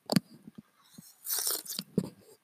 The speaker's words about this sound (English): Get a little sip in my morning coffee here.